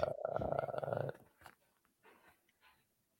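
A loud cat purr rumbles steadily for about a second, then cuts off, leaving a few faint, soft rustles and murmurs.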